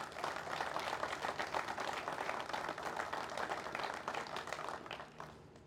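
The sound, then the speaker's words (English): An audience at Valley City State breaks into steady applause for the university's departments, a dense crackle of many hands clapping at once that holds for several seconds before tapering off. No one speaks over it. “I see many departments here today, and I think they need a round of applause, so thank you for all your help.”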